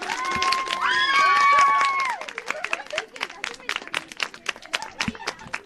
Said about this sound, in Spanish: Pues nos despedimos con los aplausos a la compañera, a la alumna del Colegio de San Francisco de Asís de Yecla,